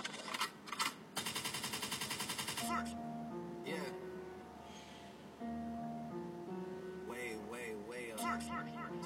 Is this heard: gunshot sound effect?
yes